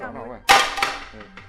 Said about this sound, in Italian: questo qui è un piatto che pesa 370 grammi ed è infrangibile. Questo è 4.000, no, infrangibile, io se vuoi lo faccio cadere